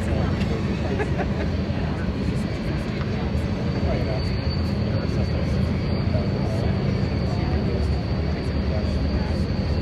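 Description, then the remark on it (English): A train rumbles past, a loud, steady low roar that fills the whole stretch without letting up or fading. “But thank you for the cue to stop while the train was passing.”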